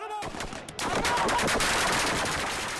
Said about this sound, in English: Soldiers and security forces unleashed a barrage of gunfire.